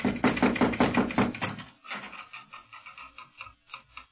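Knocking on a door on a Moorish street: a quick series of about six firm, evenly spaced knocks, followed by softer, irregular tapping and rattling sounds as the rhythm breaks up.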